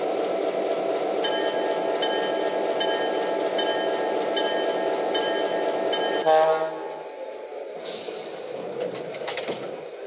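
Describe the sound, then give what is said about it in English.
A passenger train, number 360 from Seattle, arrives at a station on track one: it rumbles in steadily, its low roar filling the first six seconds with repeated high tonal whines, then the noise drops off as it slows, leaving quieter clanks and a brief brake squeal. “from Seattle on track one. Train number 360, the International.”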